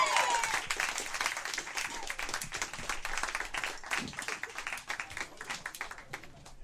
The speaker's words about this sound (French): S'il vous plaît, applaudissez